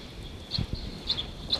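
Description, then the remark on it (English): A third wild bird, in flight, gives three short, high chirps spaced about half a second apart, over a faint steady high hum and a couple of soft low thumps. “Here goes a third wild bird. Wild in flight.”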